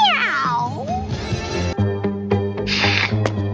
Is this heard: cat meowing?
yes